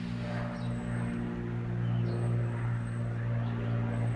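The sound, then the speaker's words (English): An airplane passes overhead as a steady, low droning rumble with a humming tone, continuous and fairly even in loudness for the whole four seconds, with no voices. “Yes, there's an airplane going over.”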